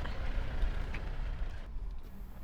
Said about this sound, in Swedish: Ska vi släppa förbi lastbilen först.